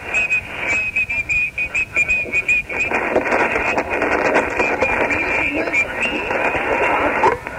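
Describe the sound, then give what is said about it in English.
Faint, garbled radio static and buzzing from a transmission on lower sideband, with choppy bursts at first and then a continuous warbling hiss, no clear words coming through. “It sounds like he's on lower sideband or something. We're just barely hearing a buzz, over.”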